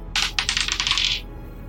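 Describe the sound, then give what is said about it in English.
Dice clatter across a hard table in a quick burst of rattling clicks that tumble and settle within about a second, with no voices. “I have a dice.”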